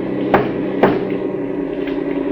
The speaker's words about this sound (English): Then you better warn our machine gun crew in the back. Right. Three knocks on the back of the cab.